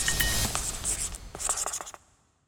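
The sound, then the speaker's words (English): A pen scratches across a piece of paper in a quick series of dry strokes as Putin writes a word, briefly pausing midway before a final burst of writing and then silence. “This time he wrote a word on the piece of paper.”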